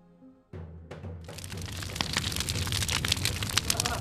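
bonfire crackling

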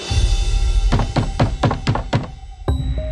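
knocking on a door

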